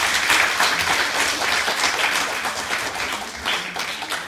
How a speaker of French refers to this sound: Et bien, je vous demandais d'abord d'applaudir vos camarades sur ce travail.